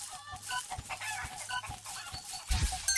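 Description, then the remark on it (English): Chickens cluck in short, repeated bursts over a busy, bright background of chirps and tones, with a louder, heavier thump near the end. “I forgot it makes the chicken faster.”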